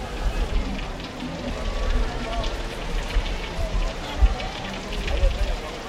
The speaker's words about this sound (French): La pluie ne s'est pas arrêtée du week-end, mais heureusement, aucune coupure de courant pendant les fêtes.